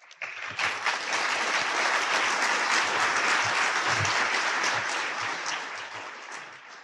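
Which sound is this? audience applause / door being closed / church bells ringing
audience applause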